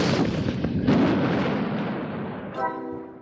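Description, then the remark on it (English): A giant cannon fires to trigger an avalanche: a loud blast opens into a heavy, roaring rumble that slowly fades, with a second thump partway through and a brief tonal ring near the end. “Donate to our show at civics101podcast.org or we'll cause an avalanche with a giant cannon.”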